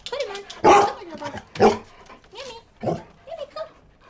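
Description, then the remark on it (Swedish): Several assistance dogs bark in sharp, uneven bursts at the Swedish Working Dog Club offices, where people sit with their dogs, some barks loud, others shorter and fainter, overlapping into a busy chorus of yaps and woofs. “För i varje rum sitter personer tillsammans med deras hundar som sällskap.”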